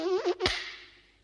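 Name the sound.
housefly buzzing in flight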